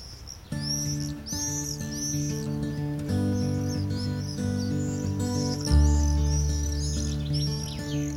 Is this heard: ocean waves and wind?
no